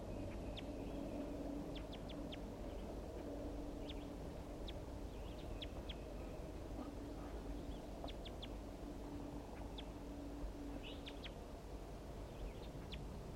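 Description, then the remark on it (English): Short, high chitter notes from a wild male bird come in scattered bursts over a steady low rumble of background noise, with no voices. “I caught the female, and now I'm going to be recording chitter notes of the wild male.”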